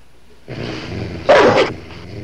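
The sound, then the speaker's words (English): A single loud, sharp dog bark from right around the corner rings out, rising above a low rumbling background of shuffling noise that continues before and after it. “It's a dog.”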